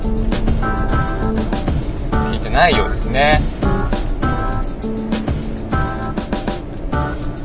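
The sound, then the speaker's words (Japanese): A steady low rumble of engine and road noise inside a moving car, driven by the speaker on a hot day after a typhoon, runs continuously beneath a man talking. “それで、ですね、今日はですね、このまま車を運転しちゃいますが、今日暑くなっちゃいましたね、本当ね、台風いなくなったらね、暑いね今日ね。”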